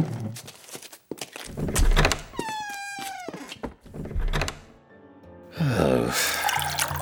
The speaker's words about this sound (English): After they were gone, Robert poured himself a very large drink.